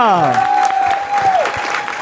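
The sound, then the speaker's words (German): A live-show audience claps steadily and densely for the full two seconds, while a sustained whistle-like tone glides down, holds steady, then drops away near the end. “Und ein riesen Applaus an Ina.”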